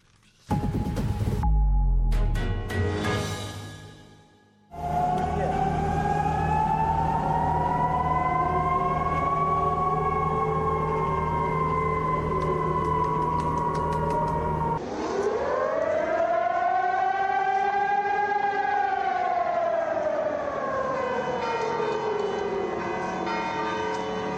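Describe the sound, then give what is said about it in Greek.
During a nationwide test activation of all civil defense alarm sirens for the Parmenion exercise, bells clang for an opening few seconds, then a loud air raid siren wails in long, slowly rising and falling tones, sustained throughout. “έγινε δοκιμαστική ενεργοποίηση του συνόλου των Σιρήνων συναγερμού πολιτικής άμυνας”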